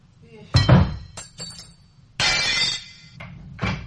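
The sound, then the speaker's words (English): A stone breaks a stained glass window: glass shatters in sharp, bright bursts, a heavy crash, quick tinkling fragments, then a second longer smash and a final clatter, loud with a low rumble underneath. “Anyone hear something? Something breaking? A window?”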